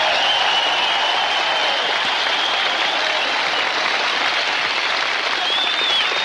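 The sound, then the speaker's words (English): Steady, loud audience applause at a show for its camera and sound crew, filling the whole stretch, a dense wash of many hands clapping at once with no break, and a few faint whistles riding on top. “Let's get an extra hand for them, huh?”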